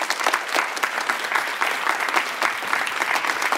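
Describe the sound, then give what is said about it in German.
An audience in the foyer of the Worms city theatre claps for actor Wolfram Koch, a dense, even wash of many hands with no pauses or voices, holding a constant loudness throughout. “So ein schöner Applaus.”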